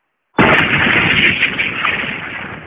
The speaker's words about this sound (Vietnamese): Tiếng pháo ở hai bên núi đùng đùng nổ lên bất tuyệt. Có rất nhiều quả pháo thăng thiên bay lên không trung, nổ tung, khánh chúc Ngũ Nhạc Phái chính thức khai sơn lập phái.